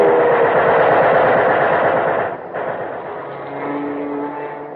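A fighter plane's engine roars loudly in a steady, rattling drone, dips briefly, then comes back with a rising, whining tone as the aircraft dives down to strafe. No voices are heard.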